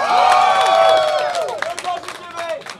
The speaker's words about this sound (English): Everyone loves The Command Zone. Round of applause for The Command Zone right now. Go!